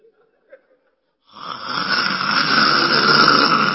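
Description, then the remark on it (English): A person imitates heavy snoring, depicting Jesus in deep sleep during the storm in Mark 4, with one long, loud, rasping drawn-out breath that starts abruptly after a brief quiet moment and holds steady. “For reverence, you know what to say? Our Lord was snoring.”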